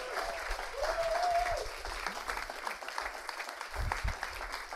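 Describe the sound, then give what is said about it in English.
A crowd claps steadily in a dense, sustained round of applause, with a brief whistle cutting through near the start and the clapping continuing throughout. “Big round of applause.”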